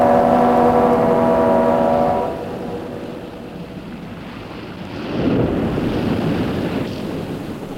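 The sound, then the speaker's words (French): A boat's deep droning horn or engine tone opens over rushing water as the boat heads back, then fades into a steady wash of waves and wind, with a louder surge of surf near the end. “Le bateau s'en retourne.”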